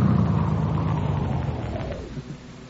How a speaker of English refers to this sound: Hey, look, here comes a car now. Let's play detective.